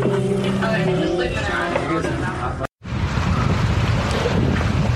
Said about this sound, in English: Crazy windy.